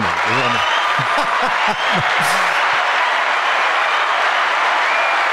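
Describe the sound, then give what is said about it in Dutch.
Steady, loud applause from an audience fills the whole stretch, with a voice or two briefly audible over the clapping at the start before it continues on its own. “Applaus.”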